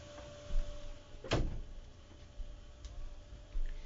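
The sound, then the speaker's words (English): A door shuts with a single solid thud about a third of the way in, followed by a few faint knocks and clicks against a low, steady hum from a water heater in a home basement studio. “I have to close the door.”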